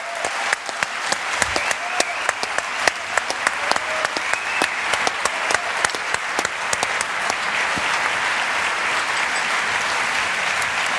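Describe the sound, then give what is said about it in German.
An audience claps steadily for about eleven seconds, a dense wash of many hands with sharp individual claps standing out, loud, with no one speaking over it. “Ja, jetzt klatschen einfach, weil wir es brauchen.”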